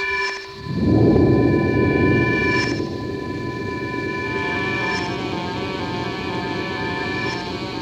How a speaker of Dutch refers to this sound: Alle motoren zijn tegelijk gestart.